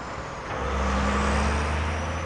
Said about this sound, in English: Dusty trucks, a lot of them, begin creeping up the dump's steep switchbacks starting at about 6 every morning. As many as 140 trucks come here from Toronto each day,